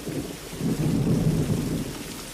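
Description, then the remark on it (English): Heavy rain pours steadily while a deep roll of thunder swells through the middle and fades, the storm loud with no voices. “Holding up her arms for balance, Natty trudges through the rain.”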